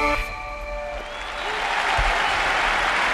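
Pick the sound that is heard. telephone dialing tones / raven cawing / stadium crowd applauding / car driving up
stadium crowd applauding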